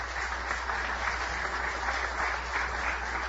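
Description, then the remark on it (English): An audience applauds the candidates at the close of an hour-and-a-half candidate forum, a dense, even wash of many hands clapping at a constant moderate loudness with no voices standing out. “And if you want to give them one more round of applause, we'd welcome that.”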